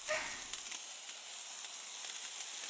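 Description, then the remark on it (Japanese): A hand-held sparkler sizzles and crackles steadily, a bright, dense hiss with faint pops running throughout, no voices over it. “あ、火ついたね。”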